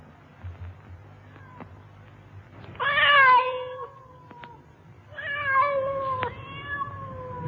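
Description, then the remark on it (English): A cat on a roof lets out two long, drawn-out meows, each rising then trailing off, heard alone against a low background hum. “Man can't have a few quiet drinks in peace in his own room without flipping cats on the roof.”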